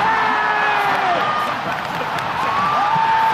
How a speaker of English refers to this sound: Yes, that's almost 15,000 people cheering on the best players in the world at League of Legends.